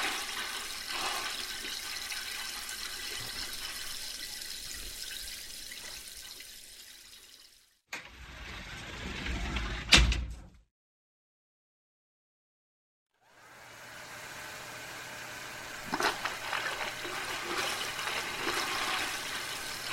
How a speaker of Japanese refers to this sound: おじさん、足先にシャワー浴びるから。